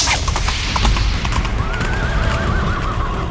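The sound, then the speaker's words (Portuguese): Horse hooves clip-clop in a quick, steady rhythm over a dense rumbling background, then a long, wavering neigh rises and trails off in the second half. “E o quarto vem em um cavalo negro.”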